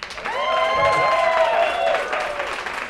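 An audience applauds steadily for about three seconds, a dense, even wash of clapping at a fairly loud level, with some sustained tonal notes running through it.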